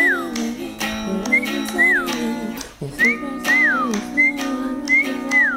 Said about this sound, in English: Right, and it related to, we went back to your whistle demo that you did.